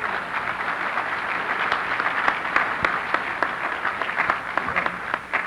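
Steady applause from an audience fills the room, dense overlapping claps sustained at an even level for several seconds, with a few sharper individual claps standing out near the front.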